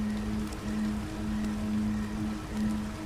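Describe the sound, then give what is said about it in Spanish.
A steady, continuous rush of flowing stream water, even and unbroken, with a faint low hum running underneath at times. No one speaks. “Y el sonido de una corriente de agua también se manifiesta en tu atención auditiva.”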